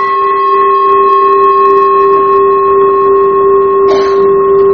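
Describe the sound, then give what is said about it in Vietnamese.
A Buddhist temple bell, struck at a slant by tipping the bell so its sound rises, rings with a steady, sustained hum of layered tones that holds evenly throughout, with a brief brighter shimmer near the end. No one speaks. “Chuông là không có thỉnh ngang về, thỉnh như vậy là mình lật cái chuông, mình hất cái chuông lật á, thỉnh xéo vậy nè, để mình đưa cái tiếng chuông nó đi lên, phát cái tiếng chuông nó lên.”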